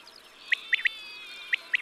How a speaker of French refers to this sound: Il faut remarquer les 1-1 qui précèdent les 8-8-8. La caille était très commune autrefois, et les paysans traduisaient son chant par « paye tes dettes, paye tes dettes ».